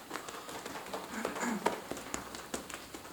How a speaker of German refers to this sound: Dann locker über die Brust bis zum Schambein klopfen. Ruhig mehrere Male.